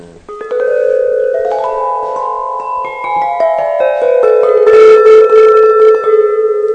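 Korean Buddhist bells, bought in Seoul, struck one after another, loud, each note ringing on and overlapping the next into a shimmering, sustained metallic wash with no voices.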